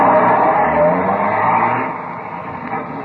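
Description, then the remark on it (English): A dragnet crew car pulls out of the police garage hard, its engine roaring and tires squealing loudly, the noise easing off slightly toward the end with no voices. “By 2:05, half the dragnet crew pulled out of the police garage and scattered over the city to their places.”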